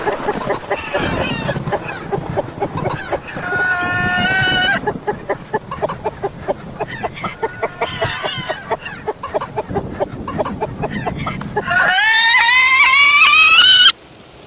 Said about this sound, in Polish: Uciszcie tę kurę, ale nie nożem. Weźcie coś potężniejszego.